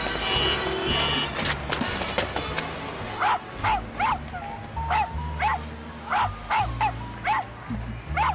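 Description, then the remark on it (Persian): A very small dog barks and yips in a quick series of sharp, high-pitched bursts over a steady background of street and traffic noise. “سگشو دیدین چقدر کوچولوه؟”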